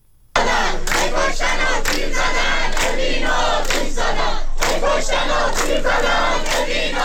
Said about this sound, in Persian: دانشجویان دانشگاه خلیج فارس بوشهر با شعار هی کشتن و تیر زدن، اوین رو آتیش زدن، اعتراض خود را به حملات نیروهای امنیتی و حکومتی به زندانیان زندان اوین ابراز داشتند.